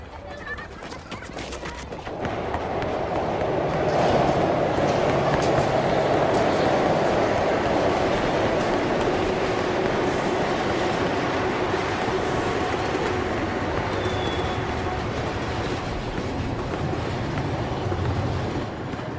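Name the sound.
train passing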